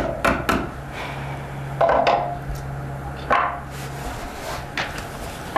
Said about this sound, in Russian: Молотком нельзя долбить круглые сутки в доме.